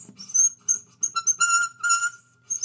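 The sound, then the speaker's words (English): An imitation of a bird call, made by rubbing a bicycle inner tube against guitar strings: a run of squeaky, whistle-like chirps in uneven bursts, fairly loud, with no talking. “So I was trying to imitate a bird sound.”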